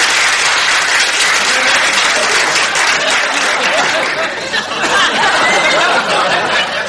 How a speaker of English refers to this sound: Applause, applause!